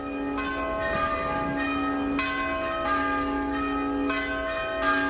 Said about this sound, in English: Bells rang out as churches joined the protest.